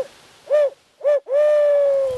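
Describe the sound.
An owl call imitation made with a hunting call by a turkey hunter in the woods before daylight under a half moon, to agitate turkeys into gobbling from their roost: two short hoots followed by a long, drawn-out hoot, loud with no talking.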